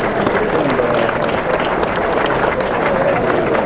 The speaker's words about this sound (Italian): Un applauso.